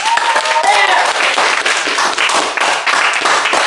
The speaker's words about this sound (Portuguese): a gurizada vai dar um grito agora, uma salva de palmas. Vamos lá, gurizada!